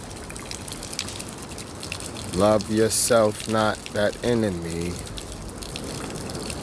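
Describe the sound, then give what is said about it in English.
Water gushes in a steady, hissing rush for the whole clip, while a man speaks a short phrase over it midway through. “Hear the sounds, water. Hear the water, hit the earth now.”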